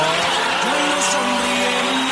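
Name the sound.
heavy rain downpour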